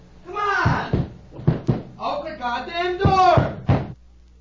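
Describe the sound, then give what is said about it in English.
Loud, irregular bangs and knocks on a locked studio door, several heavy thuds in quick pairs, while a man's voice talks urgently over them. “Hey, come on, who locked the door? Come on, there's no time to fool around. Come on, I'm on the air. Open the door.”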